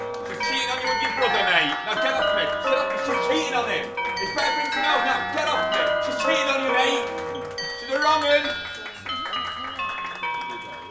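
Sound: wedding bells ringing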